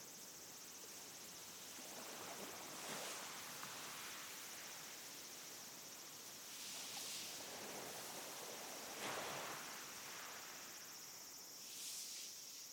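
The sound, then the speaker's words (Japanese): Soft ocean waves wash ashore in slow, recurring swells, each rising and fading every few seconds, beneath a constant high insect drone. Quiet, with no voices. “海はザーザー、波の音。”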